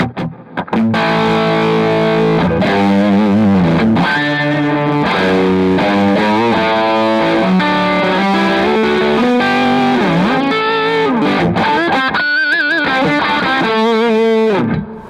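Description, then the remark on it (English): An electric guitar plugged straight into an amp plays a continuous melodic line of sustained, slightly gritty notes, bathed in reverb with a short slapback echo, loud with no voices. “I've got a little bit of reverb on there and a little bit of a slap back, but.”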